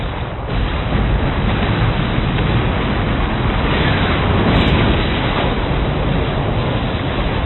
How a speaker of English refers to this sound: Hank pressed a button, and there was a huge explosion.